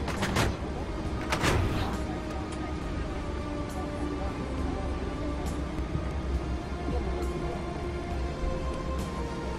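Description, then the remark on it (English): Two heavy clunks as an aircraft's entry and cargo doors are shut in quick succession near the start, followed by a steady low mechanical hum with faint rattles and no talking. “Confirm that all entry and cargo doors are secure. Close doors. Closing doors.”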